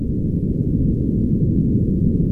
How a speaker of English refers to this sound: And that'll be followed by the sound of an earthquake.